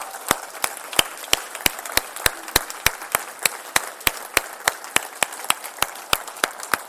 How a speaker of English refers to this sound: All the other small group leaders, come on up, pack out the front. Can we give these small group leaders a big round of applause?